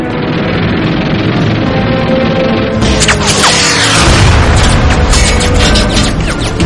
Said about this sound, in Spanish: Los Avengers lanzan sus cohetes sobre el submarino.